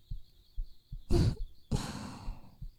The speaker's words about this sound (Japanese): ほら、こうやって体くっつけてるとあなたの胸のドキドキが私のおっぱいにも伝わってきちゃう。